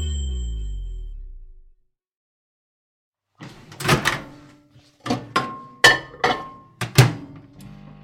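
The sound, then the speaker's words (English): A microwave heating a mug of custard: its low hum winds down and stops, then after a pause come several clunks of its door and handling, with a short electronic beep among them. “Just microwaving a mug of custard.”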